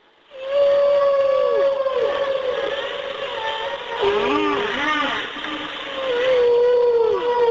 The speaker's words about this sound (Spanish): Vamos a escuchar uno de los animales más grandes que existe, una ballena. Sí. Vamos a escucharla.